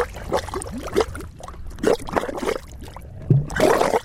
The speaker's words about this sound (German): In den Mudpots am Salton Sea brodelt und blubbert es. Mudpots, das sind eine Art zähflüssiger Geysire, ein Zeichen, dass hier Erdwärme angezapft werden könnte. You're hearing the activity underneath the surface that's coming up.